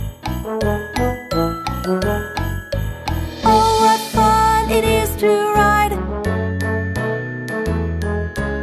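Sleigh bells jingle in a bright, steady rhythm over an upbeat instrumental melody, swelling into a louder shimmering burst midway before settling back into the bouncy beat.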